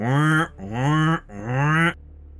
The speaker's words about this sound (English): I will quickly look around just to make sure there's no minions anywhere nearby and press the red button. There are no minions nearby, but immediately you start hearing a blaring siren.